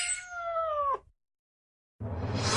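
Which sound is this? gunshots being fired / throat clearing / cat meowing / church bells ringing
cat meowing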